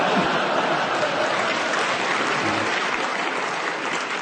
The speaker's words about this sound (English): I can't believe you clapped such a terrible joke. I was ashamed as I was saying it. They clapped out of nostalgia